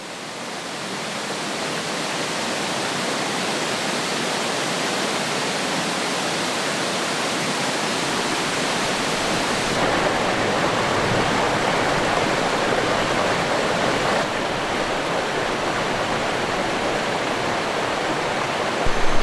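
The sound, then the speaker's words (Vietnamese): A steady, full, fairly loud roar of rushing glacial meltwater, small streams merging into one at the headwaters of the Amu Darya in Central Asia, swelling in over the first seconds and then pouring on continuously without a break. No voices. “Các dòng nước nhỏ hợp lại thành một dòng lớn.”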